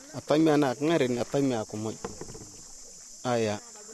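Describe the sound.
Crickets drone in a steady, high-pitched background hum throughout at a gold-panning site, while a voice speaks in short bursts over the top.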